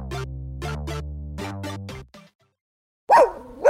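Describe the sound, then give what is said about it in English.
A few bright plucked musical notes ring out, then after a short pause a dog lets out a loud bark, with a second one starting just as it ends. “You hear that? Your dog knows spring is coming sooner than you think.”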